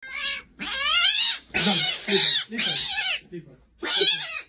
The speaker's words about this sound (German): Habt ihr schon mal eine Katze schreien gehört?